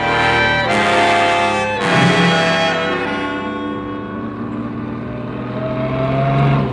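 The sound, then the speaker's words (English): A car engine roars loudly and steadily, surging as it revs up and races along, with a couple of sharp bursts of acceleration early on and no voices. “Slow down to this corner, Blue Bottle.”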